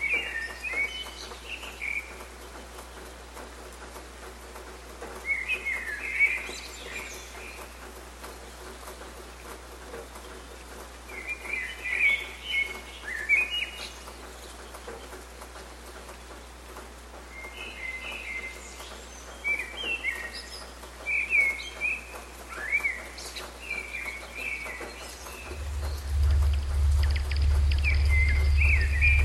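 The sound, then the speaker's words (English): Several birds sing and chirp in a morning dawn chorus, in bright, repeated bursts over a steady hiss of outdoor background noise, with no one talking; near the end a low, loud hum rises beneath the birdsong. “This is the sound of the bird's dawn chorus and the earth's dawn chorus.”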